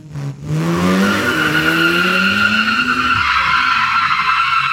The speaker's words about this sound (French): Et ils ont aussi lancé un générateur d'effets sonores. Ça marche beaucoup moins bien, beaucoup moins bien. J'ai demandé, par exemple, une voiture qui s'arrête, qui freine super fort Attendez, on va écouter ça.